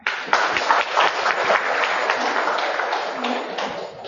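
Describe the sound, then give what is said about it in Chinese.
An audience applauds the abbot, who has been invited to briefly introduce the essentials of the study of emptiness. It is a dense crackle of many hands clapping at once, sustained at an even level for several seconds before thinning slightly at the end. “我们借这个机会啊，请院长给我们介绍一下这空知探究的一些精华啊简要的，然后我们鼓掌。”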